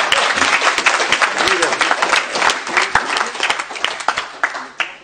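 A burst of applause from a group, dense overlapping claps that stay loud and steady for about five seconds, with a few sharper individual claps standing out toward the end. The applause follows the announcement that Roberto Ter Hark, alderman of Noordwijk, is the first to be recommended by the council.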